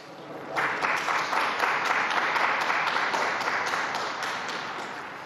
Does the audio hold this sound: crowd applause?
yes